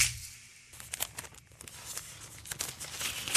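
Dry paper crinkling and rustling as small sheets are handled and unfolded, with irregular crackling bursts over a few seconds and no voices.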